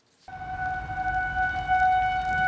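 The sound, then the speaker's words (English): A steady outdoor tornado warning siren in Denver, activated by the fire department after a 911 call, blares for three minutes amid rain, wind and severe weather, with sustained, unwavering tones, loud and continuous over a rumbling bed of wind and ambient noise, with no voices present. “In the middle of rain, wind, and severe weather on Monday, Denver's tornado sirens blasted around the city for 3 full minutes.”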